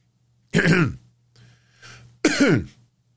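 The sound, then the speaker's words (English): A person imitates the harsh, phlegmy smoker's cough of a 44-year-old man who used to smoke and quit: two loud rasping hacks about two seconds apart, with a softer wheezy breath between them. “Ah, yeah, smoker's cough, because he used to smoke and he quit.”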